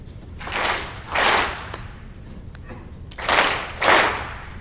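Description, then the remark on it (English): A crowd practices clapping together on a speaker's raised hand, in two quick double claps, a pause separating the first pair from the second. Each clap is a loud, broad, slightly ragged burst of many hands. “Again, it's going to take a series of two claps, okay?”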